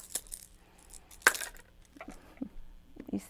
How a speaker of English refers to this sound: Look, here's some keys. There's four keys on that key ring. There's four of them.